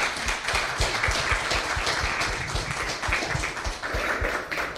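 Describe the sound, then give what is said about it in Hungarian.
An audience at a talk on child protection, part of the Francesco Kávézó programme series, applauds steadily to thank the speakers, many hands clapping in a dense, continuous wash of sharp claps that holds at an even, fairly loud level throughout, with no voices above it. “Nagyon szépen köszönjük, egy nagy tapssal köszönjük meg.”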